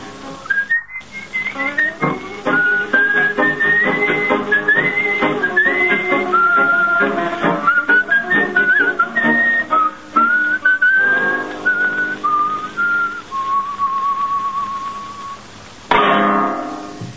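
A man whistles a lilting melody, clear and close, with a thin band-limited quality like an old recording, sliding between sustained notes before ending and a brief noise burst near the end.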